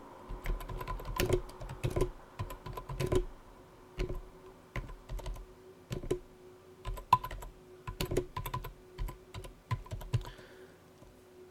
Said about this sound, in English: Sorry about the typing, folks. I'm just typing to David now